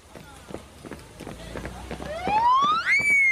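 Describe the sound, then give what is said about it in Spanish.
A police patrol car siren rises sharply in pitch and swells louder in the last second, heading straight toward the listeners, after a stretch of quick, rhythmic running footsteps. “Eso sí es un patrullero y viene directamente hacia nosotros.”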